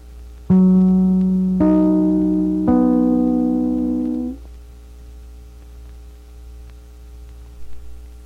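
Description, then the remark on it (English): The three NBC radio network identification chimes strike one after another about a second apart, each clear note ringing on and overlapping into a sustained, fading chord that dies away after a few seconds, followed by quiet background hiss. “Listen for the familiar NBC chimes, your signal for fine radio service and entertainment.”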